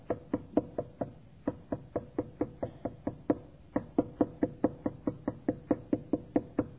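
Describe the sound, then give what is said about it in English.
Steady, rapid knocking on a door, about four raps per second continuing without pause for several seconds, fairly loud with no voices. “Continuous knocking. Jesus is always knocking on the door of his church.”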